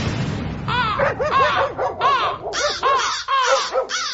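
Crows caw loudly as they fly up from a birch tree, a rapid series of harsh, overlapping calls repeating nonstop over a few seconds, as if several birds are squawking at once.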